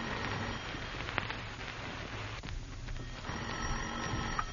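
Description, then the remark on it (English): A telephone bell rings in an office in two bursts separated by a short pause, fairly loud against a steady background hiss, with no one speaking. “You pace the floor of your office, and finally the phone rings.”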